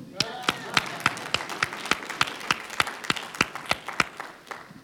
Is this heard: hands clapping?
yes